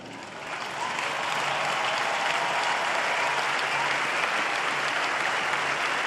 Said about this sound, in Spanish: A ellos, este aplauso del corazón por su gran servicio.